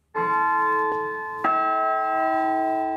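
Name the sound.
church bells ringing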